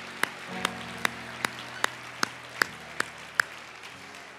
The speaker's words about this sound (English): Why don't we clap our hands to the Lord as we're seated?